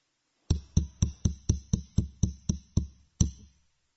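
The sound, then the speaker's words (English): A rapid, steady run of about ten loud knocks on a door, each a solid thud, followed by a brief pause and one final knock, with no voices. “And knocking at the door.”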